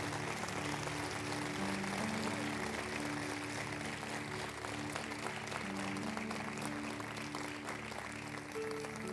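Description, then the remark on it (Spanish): A church audience applauds the Lord in worship and exaltation, a dense, steady wash of clapping that holds at an even level for the whole stretch, with a low sustained tone humming faintly underneath. “Y la iglesia del Señor dice: ¿qué tal si levantamos al Señor un aplauso de adoración, de exaltación?”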